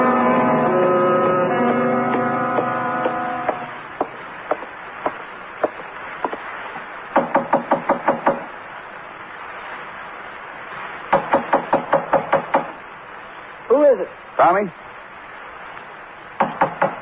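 Police knock loudly on a door in several insistent bursts of quick raps, with a few single knocks between them. There is a sustained tone at the start and a brief voice near the end.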